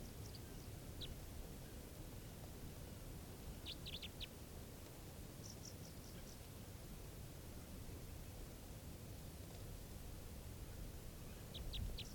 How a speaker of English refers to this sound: Recording, the bird's calling now.